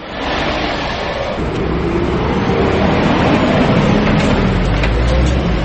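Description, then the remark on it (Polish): Two heavy trucks rumble past each other on a town road in Bojanowo, a loud, continuous roar of engines and tires with deep low-end rumble that swells slightly toward the end. No one speaks. “Sceny dantejskie, jeżeli pomijają się tutaj dwa ciężarowe.”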